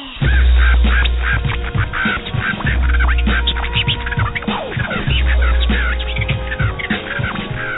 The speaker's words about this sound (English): A bird?